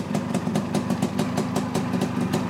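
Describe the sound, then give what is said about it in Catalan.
A Montesa motorcycle engine idles with a steady, rhythmic putter of quick regular beats over a low rumbling hum, holding an even loudness throughout with no voices. “Era so de Montesa, eh? Sona a Montesa.”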